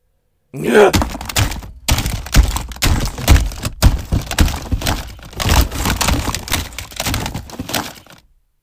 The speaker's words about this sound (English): I look at the shattered remains of the phone.